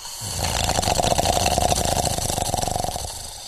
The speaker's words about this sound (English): Pembroke, you've got, like, 17 points of non-lethal damage, but you're awake enough to hear the sound of a bear growling.